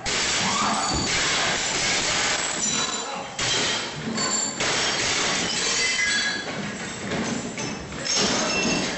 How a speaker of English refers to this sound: Here's security camera footage. I don't know if you can hear anything. You can hear the glass breaking.